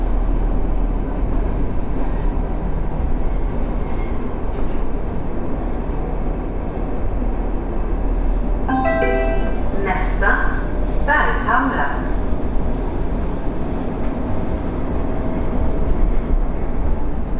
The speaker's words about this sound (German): Ich merke jetzt deutlich am Ohrendruck, wie sich die U-Bahn tief und rasant in die Erde bohrt.